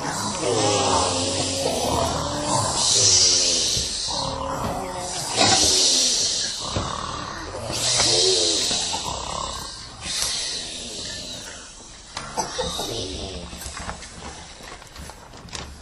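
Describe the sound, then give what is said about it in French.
Several children loudly imitate a huge sleeping lion's snoring, with rough, breathy snorts and growls repeating every couple of seconds in overlapping waves, noisy, with no ordinary talk. “Un énorme lion qui dort maintenant en ronflant comme une cheminée. Comment vous ronflez les enfants?”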